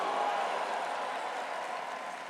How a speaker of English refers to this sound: Somebody give the Lord a praise for what he did for us there. Give the Lord a bigger, bigger clap and a shout of praise. A bigger, bigger clap and a louder shout of praise.